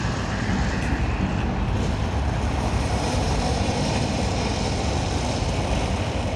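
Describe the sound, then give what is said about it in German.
A steady, dense low rumble with a broad roaring hiss spreads evenly over the whole stretch: a simulated eruption of Vesuvius, staged every 15 minutes as an effect in an exhibition in the Salon d'Honneur of the Grand Palais in Paris, played at constant loudness without breaks or voices. “Alle 15 Minuten bricht der Vesuv aus.”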